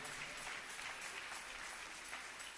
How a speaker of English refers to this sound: Let's clap for Jesus on his behalf.